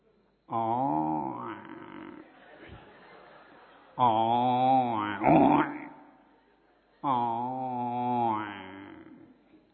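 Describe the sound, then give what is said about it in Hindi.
A man's voice imitates a buffalo with three long, deep, droning grunts, loud, separated by short pauses, the second ending in a rougher rasping burst, as part of a cultural program of sound imitations. “Buffalo.”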